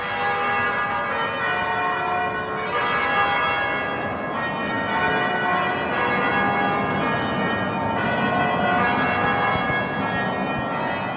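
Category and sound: ambience, church bells ringing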